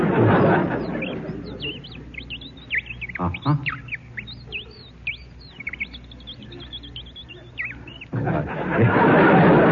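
A handheld Audubon Bird Call whistle twisted to make a rapid run of squeaky, high chirps and twitters for several seconds, fairly loud, framed by bursts of noisy rustle at the start and end.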